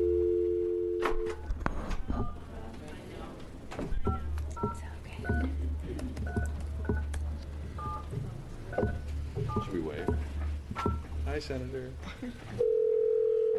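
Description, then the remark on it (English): A steady telephone dial tone hums during a legislative committee hearing, then gives way to a quick run of short keypad beeps as the number of Senator Johnson is dialed so she can testify by phone. The tone returns near the end over a low background murmur. “And like as you indicated, Senator Johnson is stuck in Scappoose this morning, so we will call her so she can testify by phone, Madam Chair.”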